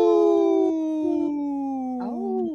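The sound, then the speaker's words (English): A person imitates a wolf howl on Native Roots Radio, in a segment supported by Howling for Wolves: one long, sustained, loud note that wavers slightly and slides downward, with a brief upward lift near the end, without other talk. “Okay, we had one of the comedians howl,”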